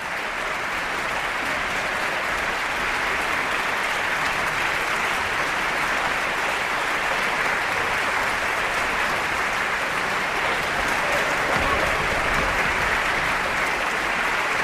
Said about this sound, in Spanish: Continúan los aplausos en el Teatro Monumental de Madrid tras la interpretación de esta obra del compositor checo